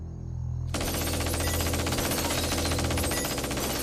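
Sustained automatic gunfire erupts after a brief low rumble, a dense, rapid rattle of shots continuing loudly and steadily to the end, as assailants disguised as police and army riddle Trotsky's bedroom with gunfire.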